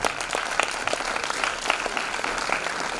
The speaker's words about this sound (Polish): Wielkie brawa!